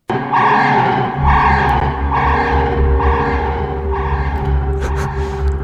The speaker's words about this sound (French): se sert avant tout de sons électroniques et industriels, des ronronnements de moteurs, des martèlements d'usines, pour marquer le côté vraiment le côté métallique, le côté organique.